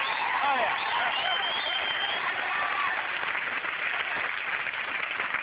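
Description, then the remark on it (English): A studio audience applauds loudly and steadily, a dense wash of clapping that holds for several seconds, with scattered whoops and crowd voices mixed into the noise. “They're up for the most annoying outburst of gratuitous applause.”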